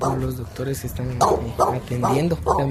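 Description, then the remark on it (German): Several guard dogs bark in a rapid, repeated series of loud woofs with some whiny yips mixed in, at a health centre with an open-air waiting room in the cool evening air, while a voice talks underneath. “Es gibt auch Hunde, die aufpassen.”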